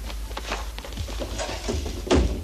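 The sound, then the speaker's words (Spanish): A woman closes a sliding door at an inn; it rolls and thuds shut with a soft knock, preceded by faint shuffling and handling noises. “Su esposa cierra la puerta corredera y le limpia la sangre con la boca.”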